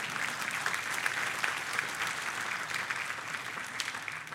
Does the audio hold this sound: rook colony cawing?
no